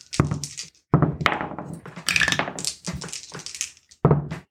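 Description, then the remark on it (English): Dice rattle and tumble across a hard surface in several loud bursts of clattering and knocking, separated by short pauses, with no voices, as players roll for stealth in a game; the dice land on three 10s and a 2. “Okay, that is 3 10s and a 2 on these dice.”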